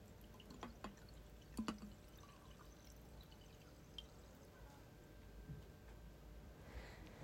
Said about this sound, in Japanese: ほらほら、じゃあグラス持って。うん。お酒、継ぐね。よいしょ。